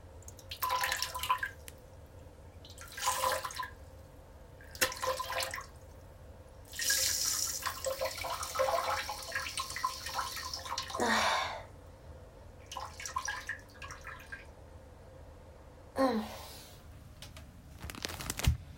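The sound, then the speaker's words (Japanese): Urination into a toilet: a series of hissing, splashing spurts of liquid, with one longer stream in the middle and short pauses between bursts, with no voices. “おしっこの音が叫んでると思うんだけど、します。”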